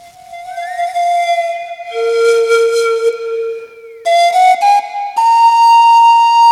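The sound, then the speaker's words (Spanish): Eerie, drawn-out whistling tones in the night hold and slowly bend in pitch, layered over one another and shifting in steps, loud, with no voices. “Por eso, si llegan a escuchar un silbido en la noche, tírense al piso y tápense los oídos.”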